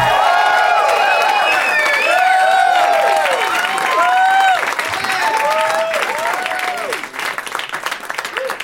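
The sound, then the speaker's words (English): An audience at the UCB Theater claps steadily and loudly, mixed with rising and falling whoops and cheers, a dense continuous wash that thins out a little over the final seconds. “Nice clapping, white people.”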